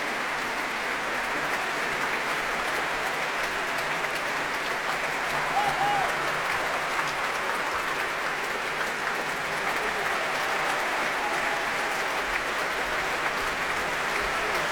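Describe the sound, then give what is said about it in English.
Steady, dense applause from a large audience at a German Symphony Orchestra of Berlin concert at the Proms, Royal Albert Hall, for the orchestra's leader and section leaders, fills the whole clip, a continuous wash of clapping at an even level with no voices rising above it. “Well, applause now for the leader of this orchestra, Wei Lu, and for other section leaders going on now.”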